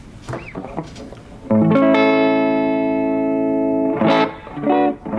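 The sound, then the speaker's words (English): A clean electric guitar chord strummed once through the amplifier alone, gain turned all the way down, level slightly past noon and tone at noon, left to ring bright and sustained for a few seconds, with brief talking before and after it. “I'll flip out the mic here so you can hear just the clean sound of what the guitar sounds like”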